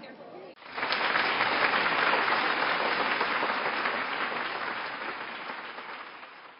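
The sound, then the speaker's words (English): A large crowd in an arena bursts into sustained applause and cheering after a brief moment of murmuring, the dense clapping staying loud and steady before slowly thinning toward the end. “Others are cheering him on, and still others, they're falling back in their seats laughing.”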